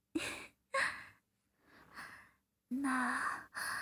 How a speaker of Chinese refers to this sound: 你怎么了？你怎么开始大喘气了？是我弄的吗？